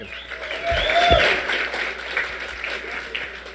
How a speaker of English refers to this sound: Okay, light applause is understandable. It's like following Elvis, you know. It's just nowhere to go up there.